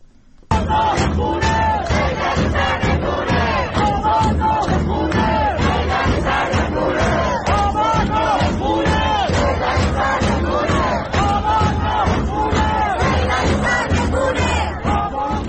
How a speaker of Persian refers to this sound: الان صدای یکی از این اعتراضها رو در منطقه صادقیه تهران میشنویم.